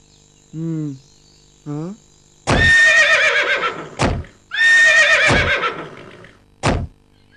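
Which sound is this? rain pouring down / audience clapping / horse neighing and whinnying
horse neighing and whinnying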